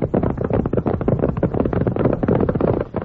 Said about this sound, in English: Why, anyone knows that's horses a-galloping. Sure thing. Out west you hear that sound all the time.